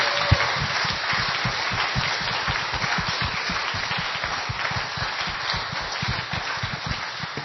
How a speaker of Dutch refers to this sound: Het was een mooie dienst, hè? Zullen we die jeugd een applaus geven voor alles wat ze gedaan hebben?